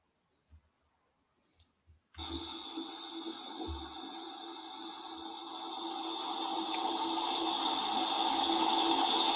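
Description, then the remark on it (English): A few soft clicks, then loud running water gushing out bursts in abruptly and rushes steadily, growing gradually louder and fuller toward the end, with no voices. “But this is the water.”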